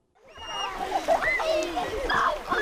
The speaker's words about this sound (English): In the mountains outside Nanwalik, about 70 kids are splashing around the cool blue water of Second Lake.